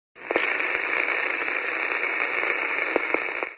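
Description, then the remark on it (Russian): Steady, loud radio static hisses throughout, with a few sharp ticking pulses popping through it at irregular moments, mostly near the start and the end. “От своего собственного сердцебиения, которое слышала даже яснее, чем тикающие удары по радио.”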